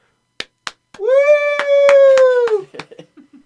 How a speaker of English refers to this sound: They were supposed to join me in that clap, but that's okay.